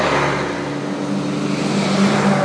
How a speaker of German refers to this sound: Vor allem, wenn solche Busse mit Busfahrern kommen, wie jetzt gerade, oder LKW-Fahrer direkt dahinter.